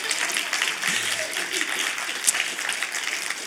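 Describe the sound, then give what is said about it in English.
An audience breaks into steady applause, a dense wash of many hands clapping at once, fairly loud and sustained throughout, with a faint murmur of voices underneath. “Yeah, that's worth clapping over.”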